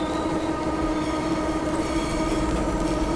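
A steady, loud rumble of a metro train riding through a tunnel, with a constant low roar and rattling hiss filling the whole stretch, no voices present.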